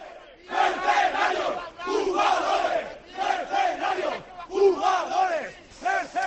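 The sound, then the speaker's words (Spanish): A crowd of Levante football supporters outside the Levante stadium shouts and chants loudly as the two team buses arrive from Villarreal after a 5-0 defeat at La Cerámica, some hitting the Levante bus; the roar rises and falls in repeated surges with brief dips between bursts of voices. “Y estos son los gritos de los seguidores.”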